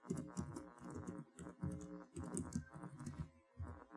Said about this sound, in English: So now I can type in. As I type, I actually get autocomplete as well.